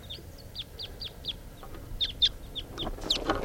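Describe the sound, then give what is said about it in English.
Flight song of a pair of wild type 2 birds taking off: a quick, steady series of high, sharp, downslurred chip notes, about four per second, growing busier and slightly louder with overlapping calls toward the end. “Flight song in the wild type 2 bird.”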